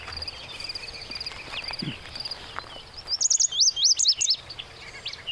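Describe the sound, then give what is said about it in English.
A wide-eyed vireo sings a few short, slurred whistled phrases in quick succession over a steady background hum of insects and other birds, fairly clear. “Are you catching the vireo at all, Carol? I hear a little bit of it”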